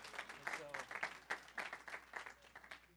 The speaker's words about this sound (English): But the Lord has answered our prayer, and look at them now. So let's clap that God has done a miracle here.